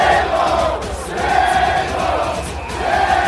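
A large crowd of Red Sox fans at Fenway Park roars and yells at A-Rod as he reports for Fox, in a dense, continuous wall of voices, with chanting that swells and fades in rhythmic waves a few times.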